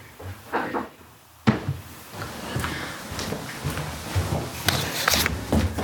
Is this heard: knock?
yes